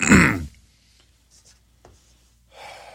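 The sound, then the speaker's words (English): A single rough throat clearing bursts out at the start, followed by near silence, a faint click, and a soft breathy rustle toward the end. “For some reason, coffee just doesn't seem to stop you from coughing.”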